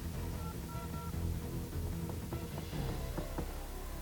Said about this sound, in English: Okay, do we have dial tone? Do we have dial tone? No, we have static. Let's try over here. There, we have dial tone there.